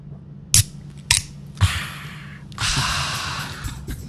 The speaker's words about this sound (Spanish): Y van a escuchar el sonido de una lata de Clipper de fresa. Plutonio de fresa.